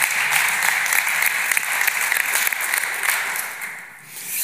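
A crowd applauds steadily, a dense wash of many hands clapping at once, sustained and fairly loud, easing briefly near the end before swelling again.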